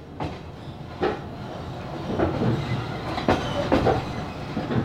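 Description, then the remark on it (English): A train heading towards the Ukrainian capital rumbles steadily along the rails, with sharp clickety-clack knocks recurring at uneven intervals over a constant low roar, with no voices. “This September, Zani and Arkady once again boarded a train and headed towards the Ukrainian capital.”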